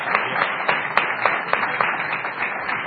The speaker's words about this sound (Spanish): Cuánto aplausos, hace el favor.